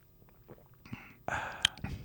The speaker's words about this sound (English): sipping a Yoo-Hoo sounds a little something like this.